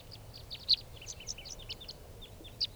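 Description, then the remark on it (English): Many wild birds chirp and call in quick overlapping bursts, a busy chorus of high, short notes with a couple of louder calls standing out over a low steady background rumble. Five birds are flying around and landing on a truck and on the ground. “Recording these are the wild birds.”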